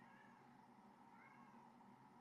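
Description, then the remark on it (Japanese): A cat named Mii meows continuously in drawn-out, wavering cries with a steady high-pitched tone, sustained at an even loudness for the whole stretch with no talking. “ちょっと待って、めっちゃみーが泣いてるな。”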